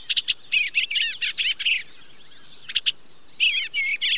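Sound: songbirds chirping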